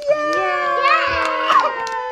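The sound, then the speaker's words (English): A group of young children cheer loudly together in one long, sustained shout with rising and falling pitches. The voices are bright and fill the whole moment. “And can we do some really loud cheering?”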